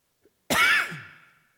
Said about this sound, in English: That's the disadvantageous thing about having this thing on my ears. When I cough, it's directly into it.